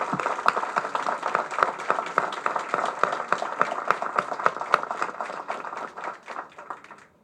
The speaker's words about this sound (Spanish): Les pido un aplauso